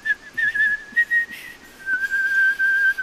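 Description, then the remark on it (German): A high, clear whistle imitates a hawfinch singing in a forest: one long, steady tone with small wavering pulses, dipping slightly in pitch partway through, continuing for about three seconds with no talking. “Kleiner Donner und ich waren im Wald und hörten Kernbeißer bei seinem Gesang zu.”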